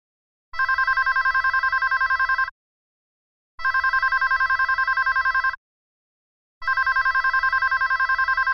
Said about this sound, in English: are you going to answer that? I think that's your phone. No, I'll just let it go to voicemail.